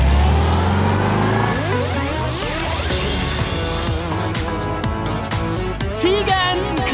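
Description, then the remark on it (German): A car engine revs and pulls away, its pitch climbing steadily as it accelerates. The sound stays fairly loud throughout, with a few brief squeaky, warbling tones near the end. “Das heißt, anschnallen und los geht's.”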